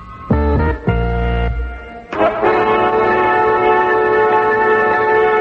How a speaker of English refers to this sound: Right now it's time for a stop, a pause to be more precise, in our celebration of NBC Radio's first Fabulous 50. And we celebrate it with the electronic sounder that's replaced our older NBC chimes.